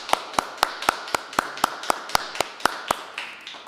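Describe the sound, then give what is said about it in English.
A single person claps steadily as a round of applause, about a dozen crisp, evenly spaced claps at a brisk pace, fairly loud, with no talking. “And I thought everyone at home could join me in giving you a round of applause.”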